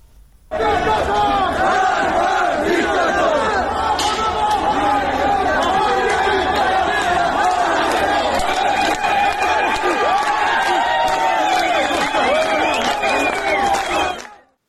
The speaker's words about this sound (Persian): شعارهایی هم داده شد، از جمله شعارهایی که خب داده می شد یکی نترسید نترسید با هم هستیم و همینطور مرگ بر دیکتاتور که در فیلمهای متفاوتی که می اومد این شعار داده می شد.